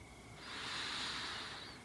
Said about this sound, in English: Focus on your breathing. Breathe in